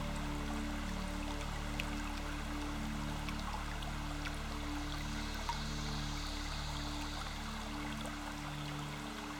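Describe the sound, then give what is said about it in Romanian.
A small stream fed by a small spring trickles steadily from one rock to another, spilling off the upper rock into a thin sheet of fine droplets; a continuous soft babbling wash with faint splashes, fairly quiet and unbroken, with a low steady hum beneath and no voices. “Într-un loc la alegerea ta, acest mic curent de apă curge de pe o stâncă pe alta.”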